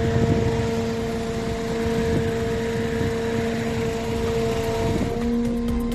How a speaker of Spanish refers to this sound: Es el de la motosierra que utilizan los bomberos, en este caso los de Burgos, para cortar esas grandes ramas que penden de los árboles porque son partidas literalmente por la fuerza del viento.